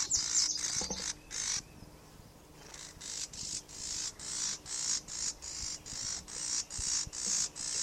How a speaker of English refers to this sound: Oh, it's a pair. It's a pair of birds near the nest. I think near a nest. We haven't found it yet, but there's a pair of birds anyway interacting. That could be the female that's buzzing.